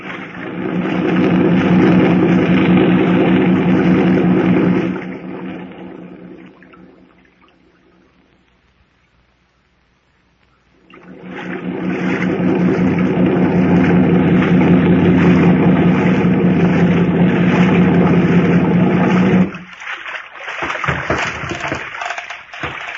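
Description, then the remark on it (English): A motorboat engine drones loudly over rushing water, drops away to near silence for several seconds, then roars back steadily before cutting out near the end, as the boat arrives at a forested mainland shore and is run up alongside an old piling. “Run the boat up alongside that old piling and tie her up”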